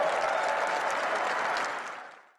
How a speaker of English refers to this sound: Trump said the comment, and then you heard the clapping. His supporters on the stage, they were happy that Colorado's going to get a wall.